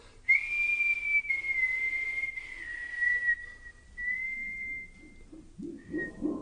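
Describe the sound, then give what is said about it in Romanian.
A person whistles a long, steady, slightly wavering note that drifts gently downward, clear, held for several seconds before a brief pause and a short final tone. “De fluiera știu să fluier și eu.”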